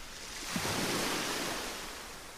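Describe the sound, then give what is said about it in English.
Ocean surf washes ashore in a broad, steady hiss, swelling to a fuller rush in the middle before slowly receding, with no voices present. “And as you stand here now, looking out at the ocean, just taking the beauty of it all, all that the ocean has to offer you.”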